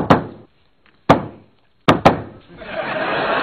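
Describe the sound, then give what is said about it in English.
Someone raps out a secret knock on a door: two slow, heavy knocks, then a quick double knock, each thudding loud before a rough background noise swells. “That's not the secret knock. This is the secret knock.”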